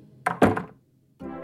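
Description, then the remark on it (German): A house door swings shut behind someone leaving the house, with a solid thunk that lands in two quick knocks, then fades into a moment of quiet before a soft, steady tone begins. “Die Tür schließt sich hinter dir.”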